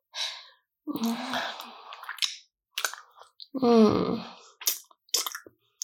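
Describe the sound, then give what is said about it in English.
Wet mouth noises and swallowing gulps come in irregular bursts, mixed with soft breathy sighs and a couple of low voiced moans, with short silences between. “You know how much I love swallowing you.”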